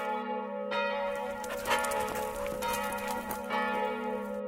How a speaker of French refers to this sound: Les cloches. C'était les cloches de la chapelle qui retentissaient dans tout le village. Je m'aperçus qu'elles sonnaient plus rapidement qu'à l'habitude.